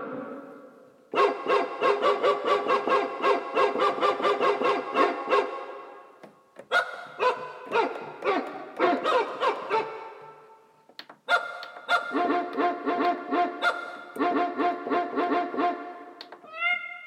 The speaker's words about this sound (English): Oh, it's the dog song. I love how they're all at different pitches.